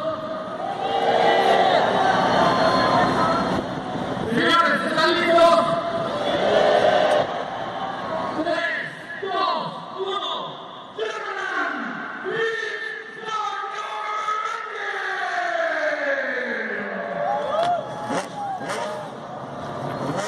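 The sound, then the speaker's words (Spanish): A large crowd shouts and roars loudly at the start of the WEC Six Hours of Mexico endurance race at the Autódromo Hermanos Rodríguez. Dense cheering gives way to rising and falling individual yells over a steady background din. “Así gritábamos cuando arrancaron las seis horas de México, que fue de verdad un evento padre.”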